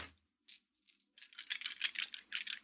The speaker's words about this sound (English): Sound of the dice.